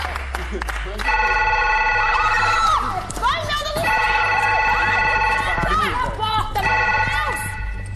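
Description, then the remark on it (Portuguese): The Big Fone telephone rings loudly in long, repeating electronic bursts with bright, steady tones, while excited voices shout and chatter underneath throughout. “atendeu o Big Fone”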